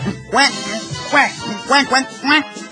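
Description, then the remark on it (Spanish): A person imitates a duck, letting out four or five nasal, raspy quacks in an uneven rhythm, fairly loud. “Oye, tartamudo, ¿cómo hacen los patos?”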